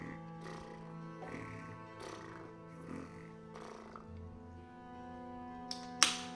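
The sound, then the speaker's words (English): Soft, rhythmic snoring, a handful of breathy rasps about a second apart, faint beneath a steady low musical drone, ending with a couple of sharp clicks. “Look up, and you see flickering light, like a torchlight, and you hear, because your passive perception's real high, you hear a gentle snoring.”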